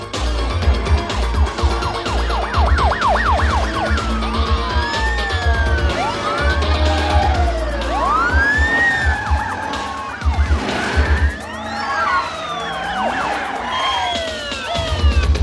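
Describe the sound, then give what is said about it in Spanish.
Several police sirens wail and yelp together, rising and falling in overlapping sweeps as a dozen patrol cars roar into a motel, with engine rumble and a brief tire skid beneath the loud, chaotic chorus. “Una docena de coches patrulla irrumpen en el motel.”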